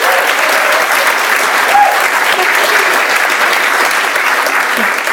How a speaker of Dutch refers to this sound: Mag ik een warm applaus voor Paulien Cornelissen.